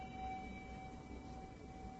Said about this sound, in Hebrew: הבא ניקח צליל פעמון. הוא משתנה משום שהוא נוצר. כל דבר שנוצר הוא דבר משתנה.